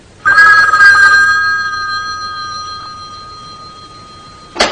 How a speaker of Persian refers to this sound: تلفن دوباره زنگ میزنه.